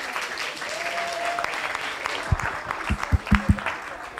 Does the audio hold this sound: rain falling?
no